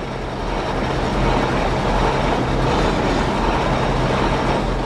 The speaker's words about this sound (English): But the first Saturday in May, the giant machine at the Old Mill and Swedish Heritage Museum awakens. For this month's Hidden Kansas, … takes us there as the mill roars and groans to life during the town's annual Mill Fest celebration.